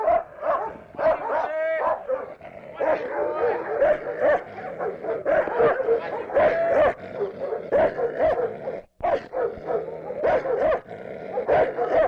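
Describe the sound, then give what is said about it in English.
A small dog, Ruff, a little Moroccan dog, barks and yips excitedly in rapid, high-pitched bursts, fairly loud, keeping up an almost continuous stream of yaps with only a brief pause near the end. “First little dog here is Ruff.”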